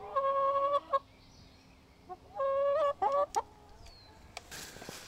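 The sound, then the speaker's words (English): Chickens call in a few bursts right near the house on a farm in southeastern Wisconsin on a spring morning: drawn-out, tonal squawks followed by quicker clucking notes, with quiet outdoor background between calls and no talking. “There are sheep and goats, lots of barn cats, and chickens right near the house.”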